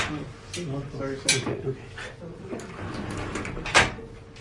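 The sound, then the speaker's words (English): A door is pushed shut, giving a couple of solid knocking thuds a few seconds apart over quiet room noise, with faint murmured voices in the background. “This door too?”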